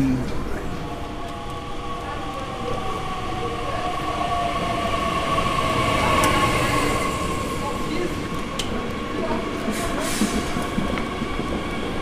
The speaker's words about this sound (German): Kommt da unser Minizug? Ja. Fein.